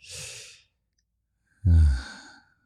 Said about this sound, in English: I like making beautiful sounds for you. I'll breathe through my mouth. Breathe with me, ready?